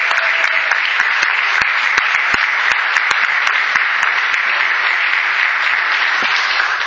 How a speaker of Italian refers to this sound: E quindi adesso un applauso per tutte le mamme che ci sono.